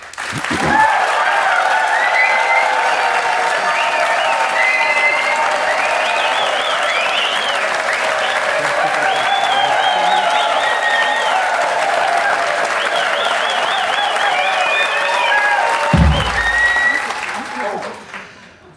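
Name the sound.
audience applause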